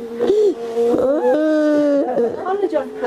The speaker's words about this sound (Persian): صدای گریه مادری که در سوگ هادی موسوی فرزندش نشسته و گلویش را بغض گرفته است. هادی موسوی 19 ساله در حمله انتحاری دیروز بر مرکز آموزشی کوثر دانش در دشت برچی کابل کشته شد.